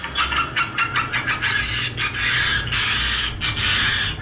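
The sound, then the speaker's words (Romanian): An electronic bird repeller generator emits harsh, raspy squawking on its own, starting as a rapid series of choppy bursts and then stretching into longer grating, bird-like screeches in the upper midrange. “Există și o chestie de îndepărtat păsări. Da. E un generator, o mizerie, de... care scoate niște sunete foarte enervante.”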